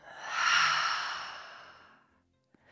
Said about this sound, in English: I would like to start this week's episode off by just taking a really deep breath. Maybe you would like to join me. So let's go ahead and just take a full inhale in through the nose. And then open the mouth and let it out.